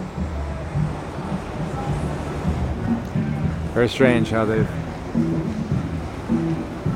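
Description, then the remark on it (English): A steady wash of rushing water, waves breaking continuously in an artificial surf wave pool in the San Joaquin Valley where people surf, fills the background at moderate level while a man speaks briefly over it. “exported this ocean sport to the San Joaquin Valley.”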